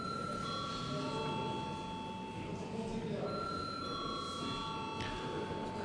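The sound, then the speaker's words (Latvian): A parliament session bell, called for before a vote on granting urgency to a bill, rings as a steady, sustained electronic tone with overlapping high pitched layers, holding for several seconds over a low murmur of voices in the chamber. “Lūdzu zvanu.”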